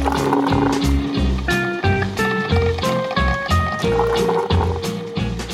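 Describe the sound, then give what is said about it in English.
Coffee pours steadily into a cup as it is refilled, a splashy gurgling stream whose tone climbs higher as the vessel fills, running about five seconds without pause. “Yeah, let's refill the coffee here, and let's start it out here.”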